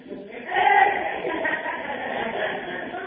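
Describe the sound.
A crowd of people bleat together in imitation of sheep, a loud overlapping chorus of wavering 'baa' sounds that swells quickly and holds for a few seconds.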